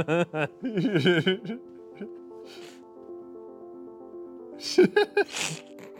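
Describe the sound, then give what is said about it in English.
A drawn-out, voiced buildup gives way to a few sharp, breathy bursts near the end, like a sneeze, while a steady sustained tone hums underneath through the middle. “This is an average sneeze.”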